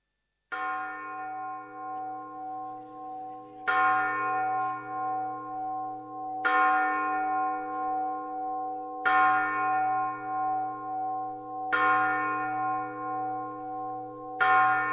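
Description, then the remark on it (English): A clock bell strikes slowly and loudly, five heavy tolls about three seconds apart, each rich ringing note humming on and fading as the next one lands. No voices. “When the clock strikes 12, yesterday has gone and today has arrived.”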